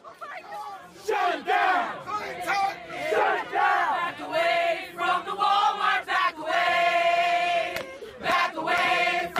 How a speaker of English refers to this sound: A crowd outside the Walmart in Ferguson, Missouri, protesting the shooting death of Michael Brown. They soon moved into the store.